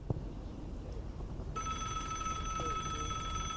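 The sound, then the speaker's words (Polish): After a moment of quiet, a telephone starts ringing with an unexpected call from coach Felix Magath to a 19-year-old player, a steady, bright electronic ring, fairly loud, carrying on without pause until the end. “Filip wkrótce otrzymuje niespodziewany telefon.”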